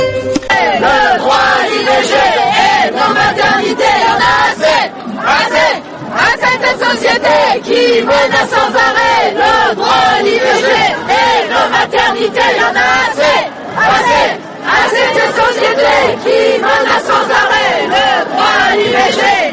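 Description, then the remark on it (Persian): Hundreds of French women shouting and chanting together at a Saturday street demonstration in Paris and several major French cities, loud and continuous, with high-pitched voices rising and falling in rhythmic bursts for the whole stretch. “این صدای فریادهای زنان فرانسویه که به زنان جهان یادآوری میکنن که نگه داشتن حقی که پیش از این به دست آوردن چندان هم آسون نیست.”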